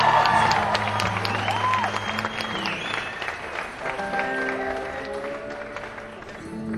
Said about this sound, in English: Let's have a Shona Biggin for the Hackett Town Boys. And a great big round of applause.